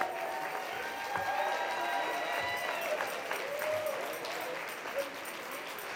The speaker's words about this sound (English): Okay, let's give one last Federation huge round of applause to these outstanding award winners.